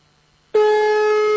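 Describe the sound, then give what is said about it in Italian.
After a moment of near silence, a telephone ring tone starts abruptly and holds as a loud, steady electronic tone, continuing unbroken with no one picking up or speaking. “Lascia squillare, lascia squillare.”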